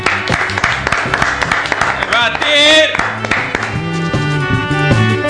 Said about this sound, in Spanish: Acaba de llegar el máster, un aplauso para el máster.